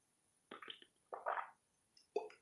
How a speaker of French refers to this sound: Je vais prendre une petite gorgée d'eau avant d'aborder ce sujet.